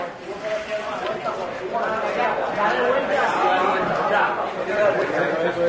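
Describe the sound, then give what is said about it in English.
A crowd in Puerto Rico celebrates as a warehouse holding water bottles and food supplies is opened after the storm, a steady wash of many excited voices shouting and chattering over one another, fairly loud and continuous throughout with no single voice standing out. “For those listening, they're opening up a warehouse. And when they open it, they start celebrating.”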